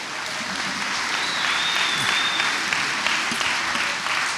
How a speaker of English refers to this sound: All right, give yourself a clap for that.